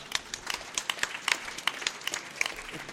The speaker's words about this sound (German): Aha. Erstmal klatschen.